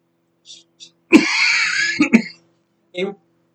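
Fairly loud throat clearing: a long rasping hack followed by two quick, sharp coughs, bracketed by a few short, soft vocal grunts before and after.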